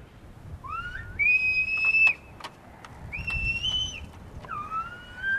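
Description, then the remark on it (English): A 28-year-old Silbo teacher whistles a message in Silbo whistled language from about a mile away on a windy ridge high above San Sebastian, saying he is hungry and they should go eat: three gliding, rising-and-falling whistled phrases, fairly faint, over a steady low rumble of wind with no one speaking. “This is a message reaching me from a distance of about a mile on a windy ridge high above San Sebastian.”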